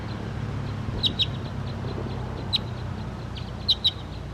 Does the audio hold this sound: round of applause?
no